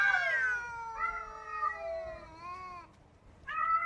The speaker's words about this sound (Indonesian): Di musim kawin, kucing-kucing itu mengeluarkan suara yang sangat khas, terutama di saat hujan atau di saat angin bertiup dengan kencang. Suara mereka sangat menggelisahkan.